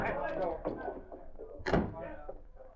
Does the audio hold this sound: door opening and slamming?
yes